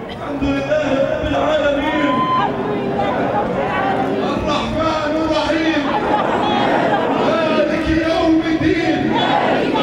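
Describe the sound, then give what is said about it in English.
A dense, loud crowd at a funeral procession as the bodies of the dead are brought in and laid under cloisters and people kiss them goodbye, many voices shouting and wailing over a constant roar of babble, with occasional sustained cries rising above the din. “Everyone's kissing them goodbye. The crowds are incredible.”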